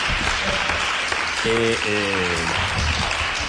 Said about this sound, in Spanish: Hombre, Jane, un aplauso para Jane.